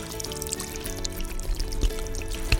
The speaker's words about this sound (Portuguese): E vamos já separar aqui uma panela de pressão. E nessa panela eu vou colocar 5 copos de água para ferver.